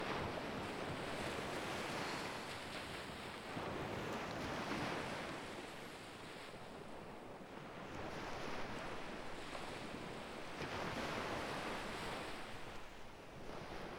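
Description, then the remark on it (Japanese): Waves wash steadily onto a beach, a broad continuous roar that swells and recedes in slow surges, with some wind noise on the microphone and no voices. “こうしてると本当に海にいるみたい。”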